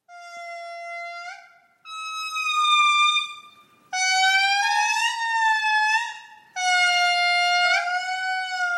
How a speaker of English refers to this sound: So tell us a little bit about what's so interesting about singing lemurs. So much. But let's listen to them again first.